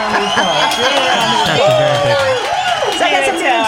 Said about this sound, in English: Is that a hand clap for me